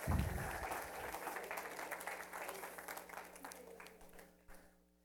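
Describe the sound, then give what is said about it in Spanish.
An audience bursts into applause, a dense wash of many hands clapping at once, strongest at the start and gradually thinning out until it fades away after about five seconds. “¿Por qué no le damos un aplauso por la?”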